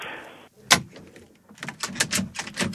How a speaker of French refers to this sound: Poussez, monsieur, poussez. Ben c'est déjà fait. Hein. Non, mais poussez sur la porte. Ah oui, pardon.